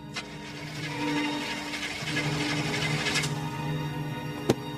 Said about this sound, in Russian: Шофер грузовика Сенька Шалый старательно жмет на стартер, пытаясь завести мотор, но мотор не заводится.